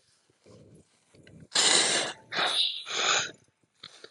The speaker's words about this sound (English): Pardon that, folks. Kind of had to blow my nose because just sneezing on recording. That was unintentional.